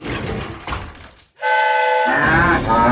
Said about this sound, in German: Das Hupen erschreckte die Kühe so sehr, dass sie aus dem Waggon stürmten und in alle Richtungen davonrannten.